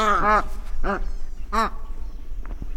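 White ibis, a wading bird, calls: three hoarse, nasal honks spaced about half a second apart, the first drawn out in a quick stutter, over a low, steady background rumble.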